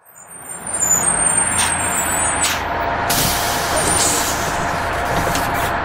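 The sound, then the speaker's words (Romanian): A bus rumbles with a steady low engine drone, punctuated by sharp hissing bursts of air brakes as it comes to a stop and a schoolboy gets off. No one speaks. “Ionuț a coborât din autobuz unde s-a întâlnit cu tatăl său.”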